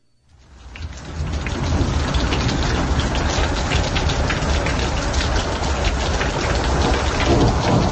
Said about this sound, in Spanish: Las voces de la tormenta.